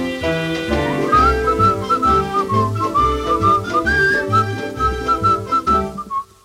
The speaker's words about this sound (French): Et sa besogne achevée, sans savoir ce qu'il a fait, il s'est mis à siffler sur le chemin de la maison.